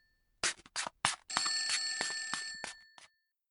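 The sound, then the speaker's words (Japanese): A bright metallic bell rings like an old telephone: a few short separate bursts, then a longer continuous trilling ring that cuts off abruptly. Fairly loud, with no voices. “電話出てきますね。”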